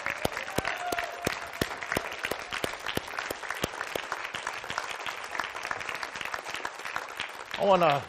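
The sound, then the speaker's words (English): A large standing audience claps steadily for several seconds, a dense, sustained wave of applause with some louder individual claps, and a voice rising briefly near the end. “Can we put our hands together for him one more time? Let's all stand.”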